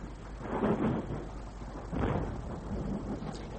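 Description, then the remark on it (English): Distant thunder from a passing storm with lightning rumbles in two low, rolling swells, one early and one about midway, fading into a steady dull background rumble. No voices are heard. “You're not afraid of the lightning.”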